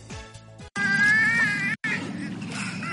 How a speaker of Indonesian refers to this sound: Dengan suara decakan dan siulan, tiga lomba-lomba itu jelas sedang berkomunikasi sambil menunggu ikan yang dilemparkan oleh pelatih mereka di Taman Marga Satwa Kolmården, Swedia.